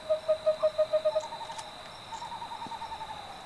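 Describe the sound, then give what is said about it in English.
An owl gives a quick run of about eight hoots, then a softer, slightly higher series follows, all over a steady, high-pitched drone of night crickets, at dusk along the Verde River. “Frogs croaking, crickets chirping. The day critters are going to bed, and the night owls are taking flight.”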